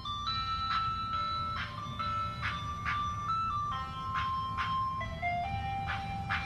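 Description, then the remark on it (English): A tinny ice cream truck jingle plays its bright, stepping melody nonstop over a steady low engine rumble, fairly loud with no voices. “The ice cream truck. It's following me.”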